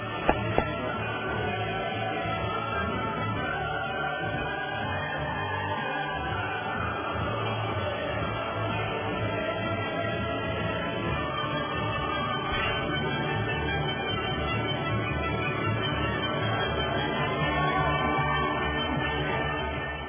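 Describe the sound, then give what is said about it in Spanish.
Sustained applause for students honored at the International Chemistry Olympiad held in Tianjin, China, blends with Beethoven's Ode to Joy, the orchestral anthem swelling steadily underneath the clapping for about twenty seconds at an even, full level, with no talking. “vayan los aplausos y el himno en la alegría del maestro Beethoven.”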